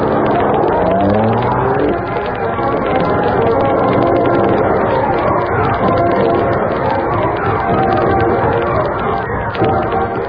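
The engine of the Black Beauty car runs loud, revving upward at first and then settling into a steady, continuous rumble as it is driven out to the old warehouse on River Road.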